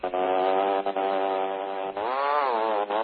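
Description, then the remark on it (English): A small boat engine is started up and drones loudly with a steady buzzing tone, then revs up to a higher pitch toward the end. No one talks over it. “Start up the engine, boy!”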